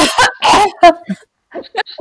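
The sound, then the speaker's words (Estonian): Several harsh coughs burst out in quick succession, then a brief pause and a few softer throaty sounds like someone clearing their throat. “Ja tšau, see on see seksikas köha.”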